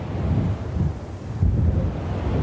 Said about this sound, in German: Der Wind ist wieder stärker geworden und es wird heute wohl nur noch 1 Fähre Richtung Festland starten.